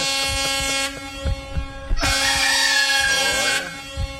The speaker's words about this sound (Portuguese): Agora ele vai acordar. Né? Agora não tem como ficar dormindo. Por esse buzinaço aí do meu amigo Jeová, não tem como ficar dormindo.